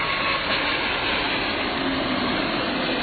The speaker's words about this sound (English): And this is Ruby Chow Park, right near the north end of Boeing Field. I think I hear a plane approaching. Is that true? Oh, my God!